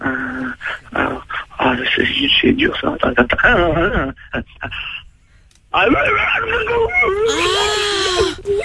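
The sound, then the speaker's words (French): After a stretch of talking, a person lets out a long, loud, wavering werewolf howl, voiced in imitation and rising to a strained, high pitch before trailing off. “Fais-moi le loup-garou, vas-y.”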